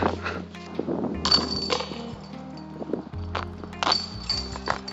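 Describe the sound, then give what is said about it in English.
A disc golf disc strikes basket chains, producing several sharp metallic clanks and jingles with a lingering ringing tone, over a steady low hum. “Banging chains.”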